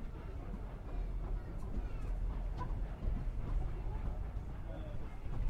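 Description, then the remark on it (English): A train labours up a gradient. Its wheels spin and lose traction before the driver immediately throttles back. The heavy engine rumble is steady and continuous, with faint metallic clanks and squeals scattered through the deep drone. “He lost traction there, but he throttled back immediately.”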